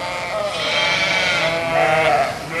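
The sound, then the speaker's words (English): Several ewes bleat loudly and continuously in a sheep tent at a fair with a few dozen low-fenced pens. Their wavering cries overlap one another over a low murmur of background noise. “The sheep tent holds a few dozen pens of animals, and the fences are low enough that you can get a good look at those ladies making all the noise.”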